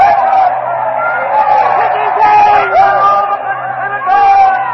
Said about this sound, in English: crowd is now denouncing Decimus Brutus, all the conspirators, is calling for vengeance. Mark Antony has stepped up to the body of Caesar. He flips the covering off the body, and the mutilated body of Caesar now lies exposed. The crowd is in a frenzy.